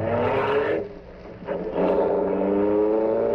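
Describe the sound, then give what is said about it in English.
A car engine roars, dips for a moment, then surges again with a rising hum as the vehicle pulls away and accelerates steadily. No one speaks. “get behind the wheel, Jimmy. Yeah, okay. Go on, quick. Come on, close the door. Yeah. Okay, go.”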